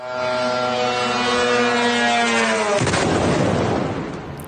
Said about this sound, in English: I want you to have a listen to what that sounded like in Bahrain, where a drone struck a residential building there over the weekend.